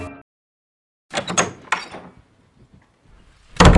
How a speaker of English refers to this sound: Let's open the door and welcome him in. Me. I got it.